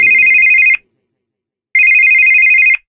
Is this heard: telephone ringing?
yes